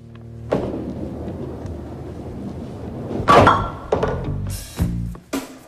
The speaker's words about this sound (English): He knocks down all three pins with one ball.